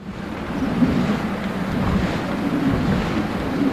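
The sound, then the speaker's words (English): The four giant sails of a traditional Dutch windmill in the Netherlands turning in a strong wind as the mill pumps and drains water: a steady, loud rush of wind with a deep, rumbling low end and faint, uneven whooshing swells. No one speaks. “With its four giant sails flailing in the wind, a traditional Dutch windmill is at work.”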